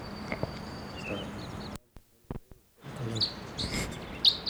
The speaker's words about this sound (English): A bunch of wild crossbills flying around the general area. 45 little calls and buzzes.